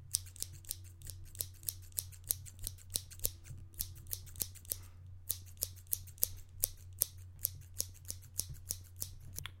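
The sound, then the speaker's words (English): A pair of scissors snips repeatedly right next to the microphone, sharp metallic clicks coming in a steady rhythm over a low, constant hum, with no one speaking. “I start with operating a pair of scissors close to the microphone.”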